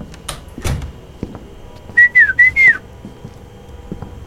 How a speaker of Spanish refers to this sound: Hace cuánto que no llegaba chiflando así.